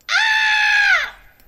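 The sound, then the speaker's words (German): A single loud, sustained human scream lasting about a second, bright and strained with a steady pitch, then cutting off abruptly into near silence. “Cool, kannst du schreien?”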